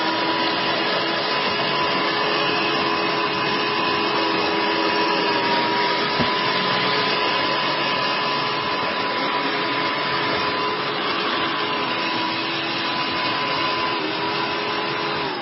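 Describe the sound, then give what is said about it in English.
A snow blower runs steadily in Chicago for the whole stretch, a loud, unbroken mechanical roar with a constant droning motor hum and whine, no pauses or changes in pitch, and no voices. “How about snow blowers?”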